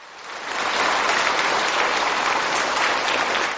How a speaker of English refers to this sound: At the Beijing Aerospace Flight Control Center, engineers and scientists erupt in applause as telemetry confirms the spacecraft has entered its planned orbit.